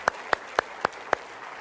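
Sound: audience applauding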